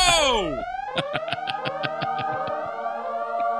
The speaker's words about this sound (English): Guys, I got it. Sound the alarms